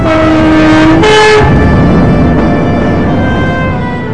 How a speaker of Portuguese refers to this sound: O apito do trem ainda silva em Moeda, apenas para o transporte de cargas como minério de ferro.